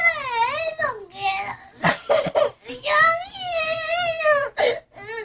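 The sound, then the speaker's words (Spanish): A young boy wails and sobs in drawn-out, wavering cries broken by short gasping breaths, loud, with no other voices present, crying because he is not allowed to watch certain videos on a tablet. “Ay, no manches, está llorando porque quiere ver viejas encueradas.”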